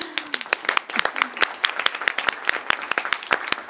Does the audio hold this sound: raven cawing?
no